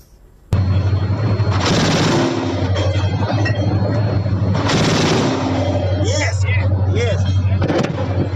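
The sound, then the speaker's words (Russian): A Gepard self-propelled anti-aircraft gun, firing during a recent shelling attack, erupts into a long, unbroken burst of rapid fire, so fast the shots merge into a loud, buzzing roar that lasts several seconds. “Прежде чем задать следующий вопрос, я предлагаю посмотреть работу зенитной установки «Гепард» во время одного из последних обстрелов.”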